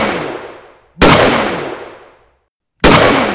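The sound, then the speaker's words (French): Sharp rifle shots crack out one after another in the middle of the night in a forest, some 400–500 metres away, each followed by a long rolling echo that fades over about a second, spaced roughly two seconds apart with no voices. “Ça crie, ça se débat, on entend des coups de fusil.”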